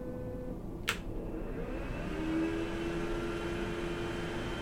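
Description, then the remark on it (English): The dryer function of a bidet toilet blows air in a steady, low whooshing rush, with a single sharp click early on and a faint motor hum rising partway through. No one speaks. “I don't know if that kind of like, it just puts wind, I don't know if that's actually drying, but it's just wind.”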